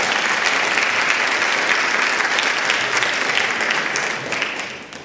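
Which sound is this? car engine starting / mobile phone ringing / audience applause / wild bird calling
audience applause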